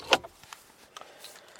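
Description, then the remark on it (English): A sharp metallic click followed by a few lighter clinks as a key is pulled out of a car ignition, brief, with quiet cabin ambience after. “So with that, let me just take the keys out of the ignition.”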